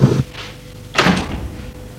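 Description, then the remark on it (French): A woman opens a door: a soft low knock at the start, then a sharper latch clunk with a brief bright rattle that fades into a quiet hum. No one speaks. “Elle l'embrasse encore une fois et ouvre la porte.”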